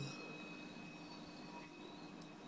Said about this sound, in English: Christ, it makes so much fucking noise. Being so much fucking noise, Christ. Bro, what is it switching its ass on? The fucking rails? God damn it. It's making so much fucking noise. Christ. Do you hear the train?